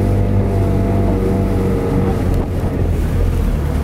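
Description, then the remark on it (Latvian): A motorboat engine drones steadily and loudly on a wide river, the boat rocking six metres above the submerged Staburags cliff, its low hum constant throughout, with rushing wind and water noise layered over it and no voices. “savā motorlaivā piekritis mūs izvedāt pa plato”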